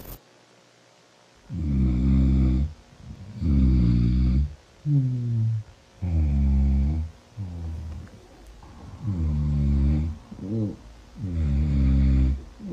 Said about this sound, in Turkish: Sen sabaha kadar horultundan beni uyutmadın. Ya, İnlediniz lan. Ne nasıl tren seslersiniz ya? Of. Buraya horlama sesini koyalım mı? Koyalım. Kayıtlı çünkü.